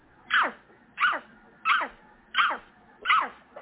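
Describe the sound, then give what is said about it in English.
A person, ordered to bark like a dog, imitates a big dog barking: five loud, evenly spaced woofs, each sliding downward in pitch, with short pauses between them and no other talk. “Bark like a dog.”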